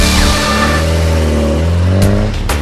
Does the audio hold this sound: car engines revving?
yes